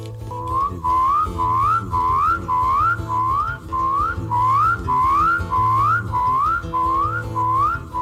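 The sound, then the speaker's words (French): A voice imitates big frogs croaking: a steady run of about a dozen rising, whistle-like calls over a pulsing low drone, repeated in an even rhythm at a fairly loud level, with no talk. “Il y en a d'autres qui font... Les plus grosses...”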